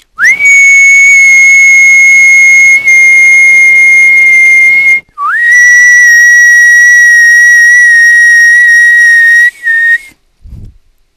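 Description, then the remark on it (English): Two long, loud, steady whistle blasts, each lasting several seconds with a rising start and a brief gap between them, ending in a short clatter. “The whistles go.”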